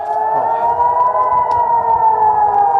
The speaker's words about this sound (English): Sirens in Israel ring out for another incoming wave of Iranian ballistic missiles.